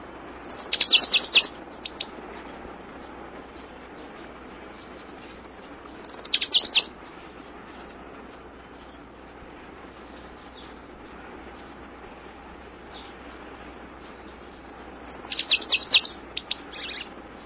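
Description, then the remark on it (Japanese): Bright, high bird chirps come in three short bursts, near 1, 6.5 and 16 seconds, over a steady low outdoor hum, with quiet stretches between each trill. The bird is at a small watering hole in a silk tree grove on the east side of an island. “存分に喉を潤したんだろう。なんという鳥だろう。”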